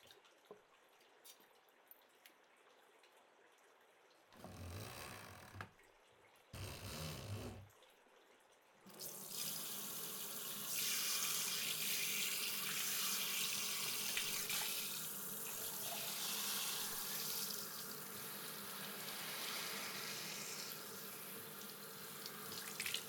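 A quiet stretch with faint rustling, two short bursts of water, then a steady stream of running water flowing and splashing continuously as shampoo foam is rinsed from the hair and scalp. No one speaks.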